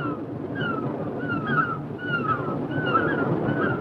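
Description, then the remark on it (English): Sea waves wash in a steady, continuous rush by a cave at the sea in the morning, with repeated high, wavering cries rising over the surf every second or so. No one speaks. “Mary awakens in a cave by the sea.”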